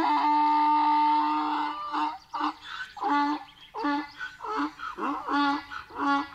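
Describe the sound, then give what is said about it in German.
A donkey brays loudly and frantically in distress, starting with a long drawn-out harsh cry and breaking into a rapid, rhythmic series of see-sawing honks, with no one talking. “Wenn der Esel bedroht wird und in Lebensgefahr ist, dann kann man das hören. Der Esel schreit dann laut und verzweifelt.”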